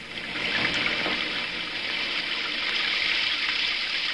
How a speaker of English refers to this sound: And finally, the Pacific High weakened and broke. And the rains came.